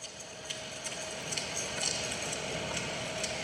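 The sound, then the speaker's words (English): A steady, even air conditioner hum with a broad whooshing hiss and a faint tonal drone, running unbroken with only a few soft clicks and ticks scattered through it, with a Japanese woman talking faintly behind it. “but I'm really puzzled as to, like, what use there would be for air conditioner with Japanese woman talking faintly behind it.”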